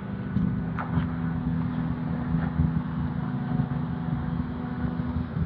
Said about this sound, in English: This is going to be noisy. Sorry about that. I'm going to go out into the street because I've got trucks and grinders and mowers and leaf blowers, and the sidewalk is blocked.